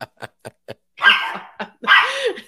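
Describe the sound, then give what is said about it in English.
A dog barks at home: four quick, sharp barks in a row, then two longer, drawn-out barks with a whiny edge. No one speaks. “Apparently, my dog thinks so too.”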